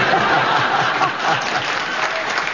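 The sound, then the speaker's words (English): The audience of Just a Minute claps steadily throughout, a dense, even wash of applause that holds at a constant loudness for the whole stretch, with a faint murmur of chuckling mixed in. “Well, they clapped that, but have you got a challenge within the rules of just a minute?”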